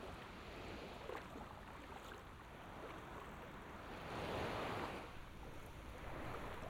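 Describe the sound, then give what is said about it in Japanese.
Steady ocean surf washing in at sunset, a broad continuous hiss with a gentle swell as a larger wave breaks near the middle, then settles back to a constant wash. “もう少しで海にくっつきそう。一面の海を茜色に染めて、ゆっくり落ちる夕日。”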